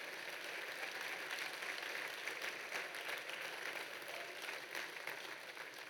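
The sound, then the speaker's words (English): A large audience at Audacious Church applauds steadily, a dense, even wash of clapping that holds at full strength for several seconds with no voices rising above it. “I want you to do a slow 360 spin and just look at the beautiful people of Audacious Church and give them a round of applause.”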